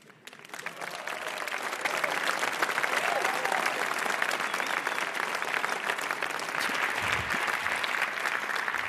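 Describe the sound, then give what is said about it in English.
An audience claps steadily for about nine seconds to welcome a postdoctoral researcher from the Potsdam Institute for Climate Impact Research, the applause swelling in the first second or two and then holding as a dense, even patter of many hands with no voices over it. “give a warm applause for Dr. Benjamin Leo Bordirsky.”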